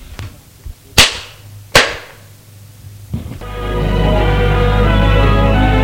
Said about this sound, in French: Il la gifle.